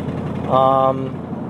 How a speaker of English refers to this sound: In which case, you've already heard me apologize so many times already for running off onto tangents and the background noise of this stupid freaking car.